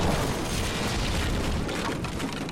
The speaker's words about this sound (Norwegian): Nummer 2. Atombombe.